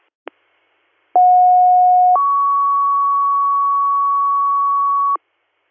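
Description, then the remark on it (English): A sharp click, then a loud two-tone dispatch page from a double set of dispatch alert tones: a steady lower tone for about a second jumps to a higher tone held for three seconds, with no talking. “Baron and service at 1058, your DR 1639, 1639, stand by for a double set of tones.”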